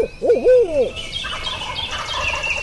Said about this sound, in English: hears us, gives an owl hoot.